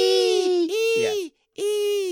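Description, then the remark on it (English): A person imitates a baby pigeon with high, whiny, nasal squeals, two drawn-out cries with a wavering pitch, then a short pause before a third similar squeal. “And the little baby ones, what noise do they make?”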